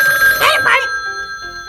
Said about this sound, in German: Am nächsten Nachmittag klingelte in der Zentrale das Telefon.